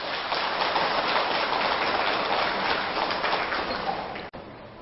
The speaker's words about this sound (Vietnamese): Thì với hai điều vừa trình bày, nếu các quý Phật tử thấy phù hợp với Đạo Phật và mình cam kết để làm việc đó thì hãy dâng cho một tràng vỗ tay thật lớn.